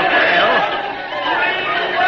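crowd chatter

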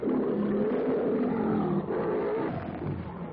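lion roaring

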